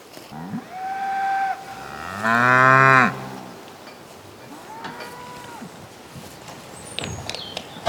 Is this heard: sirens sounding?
no